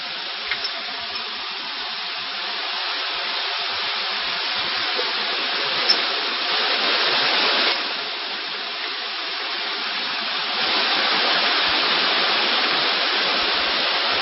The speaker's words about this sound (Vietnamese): Thôi nhưng mà mưa to thế này thì giảng làm sao mọi người nghe được.